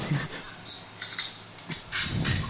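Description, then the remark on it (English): Plastic packaging crinkles and crackles in uneven bursts of sharp, bright rustling as it's handled while a box is being unboxed, with a faint murmur of voices in the background at the start and end. “The sound of plastic.”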